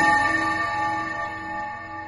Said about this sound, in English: Hickory dickory dock, the mouse ran up the clock. The clock struck one.